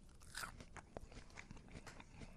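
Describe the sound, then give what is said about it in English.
A crunchy bite into fresh raw corn smut (huitlacoche), followed by a run of crisp, crackling chewing sounds, with no talking over them. “Crispy, crunchy. I can hear that crunch.”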